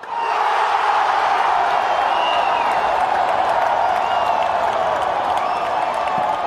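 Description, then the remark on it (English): A huge football crowd at Morumbi Stadium in Brazil, at a game between Brazil and Bolivia, roars continuously, a dense wash of cheering and shouting voices that holds steady and loud throughout, with occasional whistles and yells rising above the din. “I went to Morumbi Stadium to record a game between Brazil and Bolivia, and the crowd was insane.”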